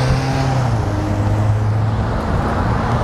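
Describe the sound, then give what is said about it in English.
A black Jeep drives past, its engine a steady low rumble with a droning hum under broad road noise, loud and sustained for the whole few seconds, with no one talking. “They go Jeep, black Jeep like mine.”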